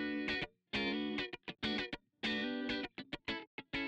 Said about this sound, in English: We also have a guitar. Two guitars, in fact. Whoa. One guitar doing more of a chordal pattern, which sounds like this.